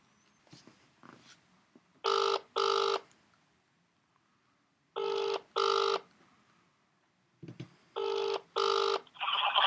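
A few soft clicks of a phone being dialed, then a telephone ringing tone sounding three times in a double-burst pattern, clear and steady, with no one speaking; the call is to a Craigslist number advertising lap dancers and pole dancers for a stag party.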